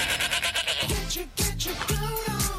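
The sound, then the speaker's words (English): A goat bleats several times in quick succession, wavering and nasal, loud over a busy rhythmic backing, in a SEN "GOAT" radio jingle. “The SEN GOAT.”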